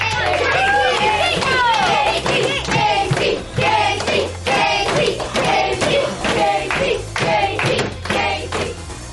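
A room full of children cheers and claps together, steady rapid clapping running throughout under excited high-pitched shouts and chatter, loud and close for the whole stretch.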